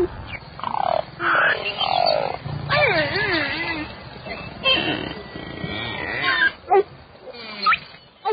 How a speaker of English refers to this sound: And the bellows of an Arctic beluga whale.